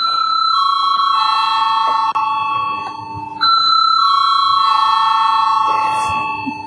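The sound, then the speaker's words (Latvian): A loud electric bell in the Latvian parliament (Saeima) rings continuously to call a vote on a deputy's proposal to a bill, a steady shrill tone with a brief break partway through, while a faint room murmur sits underneath. “Lūdzu, zvanu.”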